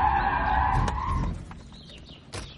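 A police car skids to a stop behind another car at a home with a loud tire squeal lasting about a second, followed by a low engine rumble that settles and fades. No one speaks.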